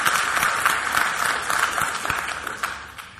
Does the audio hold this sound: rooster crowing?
no